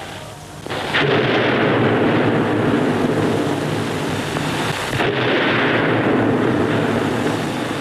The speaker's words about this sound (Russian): Отосланный вместе с Анкой, Петька возвращается и подрывает бронеавтомобиль гранатами.